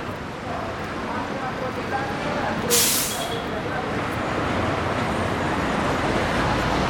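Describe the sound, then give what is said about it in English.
Heavy city traffic rumbles steadily with the deep drone of massive Transmilenio buses, and a sharp hiss of air brakes bursts out briefly partway through, all fairly loud. “The very loud buses you hear, the Transmilenio buses, which are, you know, it's like a, they're just massive buses, usually at this time packed with people, so you can barely get on there.”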